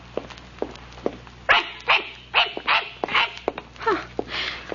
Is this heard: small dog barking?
yes